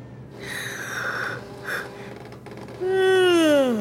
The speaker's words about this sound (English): The assistant lets out a loud yawn. She's exhausted, but she doesn't want another cup of coffee. She's jittery enough already.